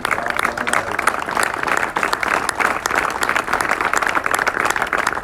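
Sustained audience applause, a dense wash of many hands clapping steadily at a fairly loud, even level for several seconds, with no speech over it.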